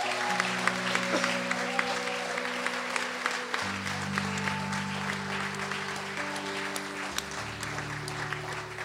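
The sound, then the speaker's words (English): A church audience at LifeSpring Church applauds steadily for Jesus, dense clapping filling the whole stretch at an even, fairly loud level, with a sustained low organ-like tone shifting pitch underneath. “Let's give our Jesus a big round of applause, guys.”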